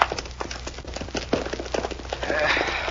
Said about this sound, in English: Now, get on those horses and vamos. Pronto.